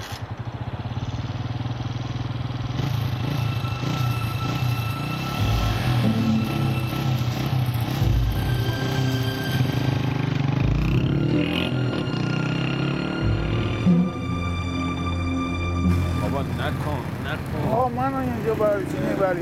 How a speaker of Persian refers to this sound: برو موتور روشن کن.